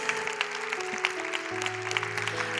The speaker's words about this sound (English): It's pretty cool, huh? Can we give these girls a big round of applause?